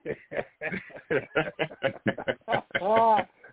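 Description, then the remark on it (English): A voice imitates an eagle's cry: a quick run of choppy, squawking syllables building to one drawn-out, wavering screech, then trailing off. “Almost sound like an eagle flying all over the country.”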